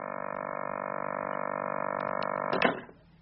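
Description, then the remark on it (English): A steady, unbroken telephone dial tone hums loudly for a few seconds after the caller hangs up, then cuts off with a brief clunk and rattle near the end. “And he's after hanging up with me.”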